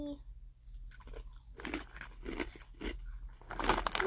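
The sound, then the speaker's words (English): Loud crunching of crispy Hello Kitty wheat flour barbecue chips being chewed in a steady series of bursts, growing busier toward the end, with a low hum underneath. “They're really crunchy, but very not crunchy.”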